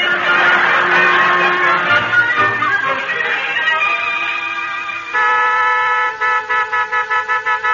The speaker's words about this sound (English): Hey, Tacey, go out and tell Bill to lay off that horn, will you?